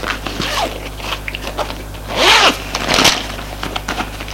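A handbag is unzipped and opened: light rustling and handling give way to two loud rasping zipper pulls in quick succession, then softer fumbling, over a steady low hum.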